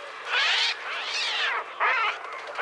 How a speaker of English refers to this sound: Ironically, Alfred Hitchcock didn't use any birds for the soundscape of his classic horror film, The Birds. Instead, the sound of those murderous seagulls was made using an early synthesizer called the Trautonium.